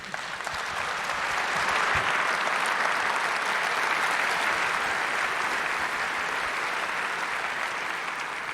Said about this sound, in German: Begrüßt sie mit einem herzlichen Applaus.